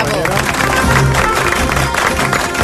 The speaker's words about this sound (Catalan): Un aplaudiment.